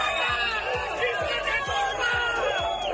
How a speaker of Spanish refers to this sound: Hacia allí se han desplazado el presidente Carlos Mazón y la delegada del gobierno Pilar Bernabé, que ha sido recibida con abucheos.